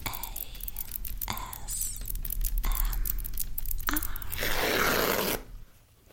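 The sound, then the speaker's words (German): Crinkly tearing and rustling of plastic wrapping being removed from a new roll of paper towels, with sharp crackles and a sustained ripping stretch before it quiets abruptly near the end. “Ich beginne, die Plastikverpackung zu entfernen.”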